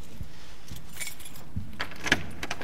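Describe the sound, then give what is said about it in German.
Keys jangle and clink in several short metallic bursts, with a louder rattle near the end and soft handling thumps between them; no one speaks. “Warte, schnell den Schlüssel.”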